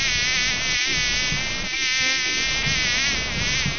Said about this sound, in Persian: مگس جان، زیادتر در کجا خود راحت احساس می کنی؟